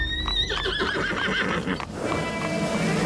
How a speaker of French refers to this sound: Une poignée de crotales se tortille sur cette terre sèche et vide, seulement dérangée par un chariot au loin et les sabots d'un cheval.